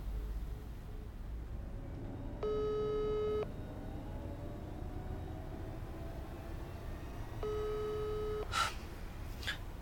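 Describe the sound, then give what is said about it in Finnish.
A telephone busy signal after a hang-up plays over a low background rumble: two steady, mid-pitched beeps about a second long each, spaced several seconds apart, with no one speaking. “Ja nyt se ei enää vastaa puhelimeen.”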